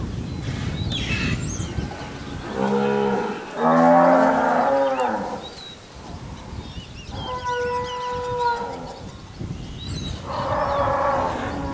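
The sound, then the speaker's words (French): Cows moo three times in close succession, loud: a long, deep bellow, then two shorter, steadier calls, with faint bird chirps in the background. “Es que las vacas son muy celosas.”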